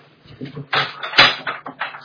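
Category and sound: household object, door being closed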